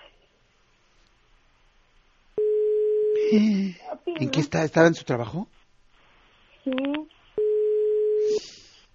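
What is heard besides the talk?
phone ringing tone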